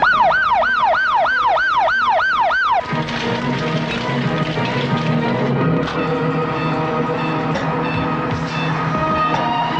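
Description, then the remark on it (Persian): An ambulance siren wails loudly with a fast rising-and-falling yelp for about three seconds, then cuts off into a dense wash of busy traffic and street noise. “آمبولانس.”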